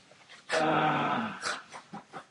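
A dog growls loudly and roughly for about a second, followed by a few shorter snarling huffs and breaths.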